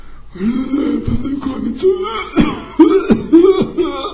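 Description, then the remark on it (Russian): A hoarse, growling voice rasps and groans, broken by three or four short, harsh cough bursts at uneven intervals, fairly loud, with no other sounds around it. “Это кашель возникает такой голос от такого от качества характера.”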